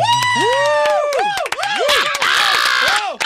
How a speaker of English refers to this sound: Who yelled encore?